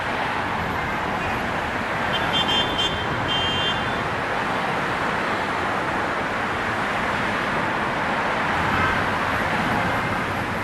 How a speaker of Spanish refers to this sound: Madrid es una ciudad llenísima de tubos de escape, llenísima de ruido.